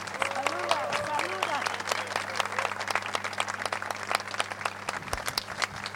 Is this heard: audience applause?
yes